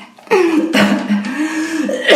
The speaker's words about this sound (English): Listen to that narc cough. That's the cough you get when you suffer narcs.